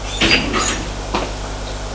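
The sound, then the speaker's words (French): An office door is pushed shut by a woman as she leaves, with a couple of soft clunks, then a quieter knock and a sharper thud at the end, over a low steady room hum with no talking. “Elle sort et ferme la porte.”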